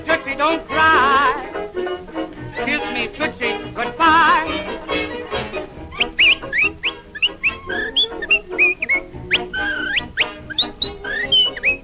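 A man whistles a lively tune with quick, bird-like trills and swooping high notes, backed by an old-fashioned band; the opening seconds carry a warbling instrumental passage before the whistling begins.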